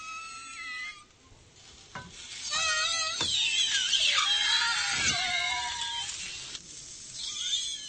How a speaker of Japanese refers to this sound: 実はこの悲鳴のような鳴き声の主は玉こんにゃく。